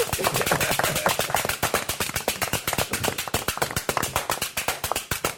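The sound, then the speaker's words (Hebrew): A group of children clapping their hands in a fast, steady burst of applause, dozens of sharp overlapping claps for several seconds. “יפה, כפיים, איזה ילדים חכמים!”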